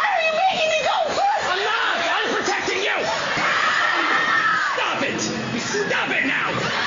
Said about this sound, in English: Screams and laughter bleed together in this funny clip from The Ellen Show that features footage of Ellen DeGeneres sending her writer